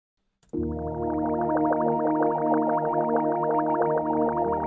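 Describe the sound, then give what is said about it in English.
A sustained, buzzy synth tone with a filter sweeping rapidly up and down, giving a fast, regular wobbling shimmer. It starts abruptly after a short click and plays alone at steady volume. “So what's happening right now is that's that same thing, but it's going really fast between 900 and 2K.”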